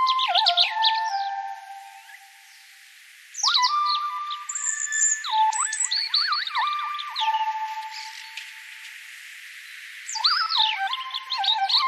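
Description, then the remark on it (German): Synthesized tones replay a European robin's song, transcribed into notes and played 1:1 on synthesizers: quick, bright, stepping and sliding electronic phrases in three bursts separated by short pauses, clean and fairly loud with no voices. “Genauer, du hast die Singstimmen in Noten transkribiert und diese dann mit Synthesizern 1:1 nachgespielt. Das hier ist zum Beispiel das Rotkehlchen, der Gewinner aus 2021.”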